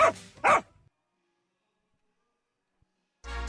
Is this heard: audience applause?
no